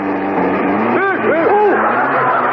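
An old car's engine roars steadily as the driver speeds up, its pitch surging and dipping in a couple of quick revs before settling back into a continuous, rumbling drone.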